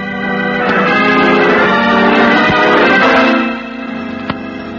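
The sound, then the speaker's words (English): A bell rings in a sustained, resonant clang, its rich ringing tones holding steady for a few seconds before easing off into a fainter hum, with no voices. “The bell.”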